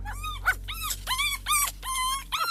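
Several dog puppies at a home whimper and yip in high, quavering cries, overlapping in quick bursts, with a steady low hum underneath and no one talking.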